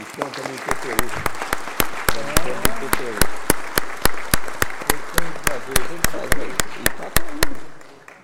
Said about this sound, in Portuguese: Uma salva de palmas para a nossa bandeira templária.